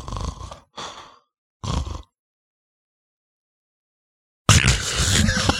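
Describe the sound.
A voice imitates sleep apnea: three rough, snorting snore bursts, a long silent pause as the breath stops, then a loud, sudden choking gasp.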